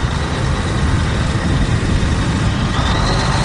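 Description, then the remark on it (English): Loud, steady roar of a DC-4 propeller plane's engines running after it lands to deliver fuel, a deep rumbling drone with a faint high whine on top, continuous throughout with no voices. “The DC-4 lands and there's no time to waste.”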